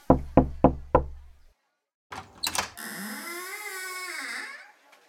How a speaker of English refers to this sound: Okay, you knock on the door. Oh, okay.